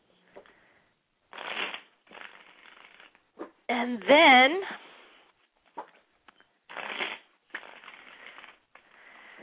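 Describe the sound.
A deck of cards is shuffled for a card reading in several crisp, rustling bursts, each lasting about a second, with a short spoken phrase between them.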